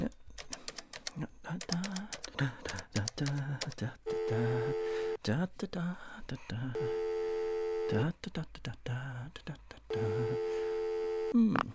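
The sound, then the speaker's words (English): Rapid tapping clicks of a phone keypad as someone places a call give way to a telephone ringing tone: three steady, mid-pitched buzzing rings, each about a second long, separated by short pauses. “I'll ring Tom, make sure he's ready.”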